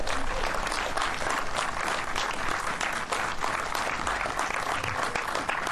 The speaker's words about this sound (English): The WNS Foundation, Hardhead Productions, the crew, the musicians, the fans, all the folks that that make this event happen. Let's have a round of applause for all of those folks.